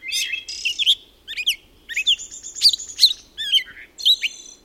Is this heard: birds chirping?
yes